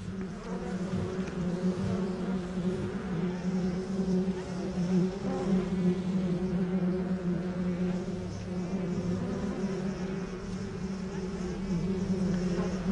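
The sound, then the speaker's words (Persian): A dense, continuous hum of hundreds of honeybees bringing their cargo to their hive in a dry tree trunk, steady throughout, with the droning buzz rising and falling slightly but never stopping. “عسل موجود در کندو غذای بچه ها و تمام گروه در هنگام سرما یا خشک سالی است.”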